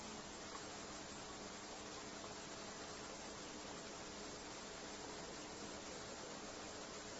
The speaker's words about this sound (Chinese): 好似系火车咁声噃。